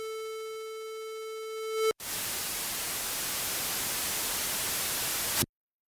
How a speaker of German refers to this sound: Das Radio schaltet sich ab. Der Rest ist Rauschen.